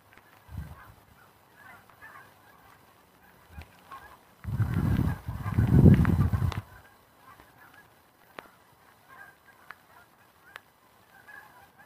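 Geese honk loudly in a dense, overlapping burst around the middle, with scattered quieter honks and calls before and after against a faint outdoor background.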